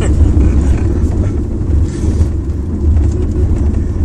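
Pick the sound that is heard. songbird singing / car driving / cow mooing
car driving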